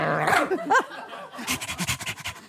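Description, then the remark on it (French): A person imitates a dog, panting rapidly in a quick series of breathy huffs after a brief whiny yelp, fairly loud. “Tu imites très bien les chiens.”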